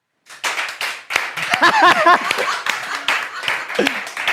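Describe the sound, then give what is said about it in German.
A crowd breaks into dense, steady applause lasting a few seconds, with scattered voices and cheers mixed into the clapping. “Ja, das ist ein Publikumsjoker. Mal mit Applaus.”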